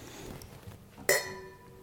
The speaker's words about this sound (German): Irgendwann haben wir unsere Hörer so weit, dass sie wissen, das erste waren die kleinen Gläser und das zweite waren die großen Gläser. Am Klang erkennen, welche Gläser wir haben.